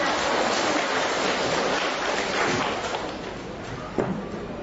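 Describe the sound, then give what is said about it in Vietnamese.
A crowd applauds steadily, many hands clapping in a dense, continuous wash of sound that holds strong for several seconds before easing slightly toward the end. “Rồi chúng ta cho một tràng pháo tay.”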